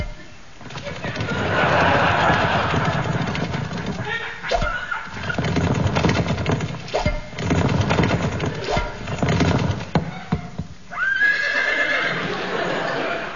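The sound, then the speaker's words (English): A horse at the Badminton Horse Trials whinnies and snorts over a steady clatter of hooves on a hard surface, with several distinct sharp hoof strikes and a final high neigh near the end, fairly loud. “It's the badminton horse tiles.”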